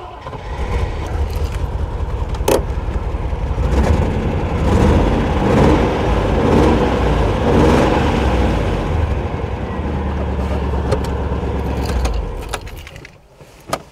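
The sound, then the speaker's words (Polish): A jingle of keys, then the engine of a Renault Avantime fitted with an LPG gas installation cranks and starts, idling steadily for about twelve seconds before cutting off. No talking. “Anim rozpoczniemy odcinek, to jeszcze Wam na chwilę uruchomię ten silnik, żebyście zobaczyli, jak fajnie on brzmi.”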